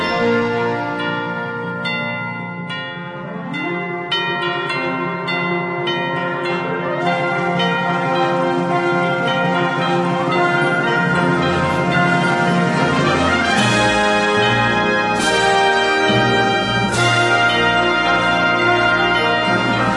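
Festive instrumental Christmas music rich with ringing, bell-like tones, played continuously at a steady, full volume with layered sustained chords and no voices.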